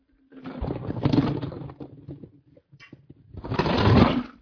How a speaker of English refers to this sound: I mean, thank you. She put ice cubes in my Powerade.